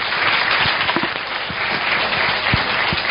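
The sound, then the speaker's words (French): Steady applause from an audience thanking a guest speaker at the end of a talk, a dense wash of many hands clapping at an even level throughout, with a few sharper individual claps standing out. “Merci encore, je crois qu'on peut vous applaudir bien fort.”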